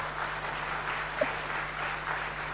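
An audience claps steadily for a couple of seconds, a dense, even wash of many hands with no voices over it, holding at a moderate level throughout.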